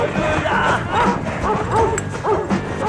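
A dog barks repeatedly in a quick, steady series of sharp woofs, with some whiny, yipping edges and a constant background hum underneath, as people climb under a fence and the dog bites one of them on the foot.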